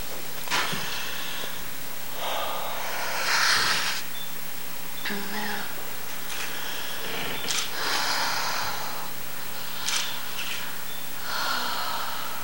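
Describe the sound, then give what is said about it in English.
Heavy, rasping breaths, a series of noisy inhales and exhales every couple of seconds, some with a snorting, gasping edge, over a faint steady hum. “That heavy breathing. It's like she's breathing her last.”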